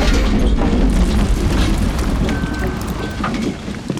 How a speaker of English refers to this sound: All right, dump the donuts.